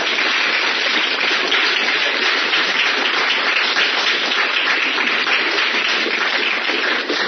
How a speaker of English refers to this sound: All right, so I just want to give everyone a round of applause and all y'all. Can you make some noise?